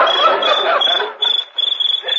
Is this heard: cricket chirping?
yes